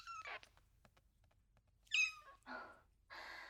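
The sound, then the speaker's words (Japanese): A kitten mews several times in short, high-pitched cries, with brief pauses between calls and no talking, after getting inside a building at the start of the new year. “悪い猫ちゃんだね。”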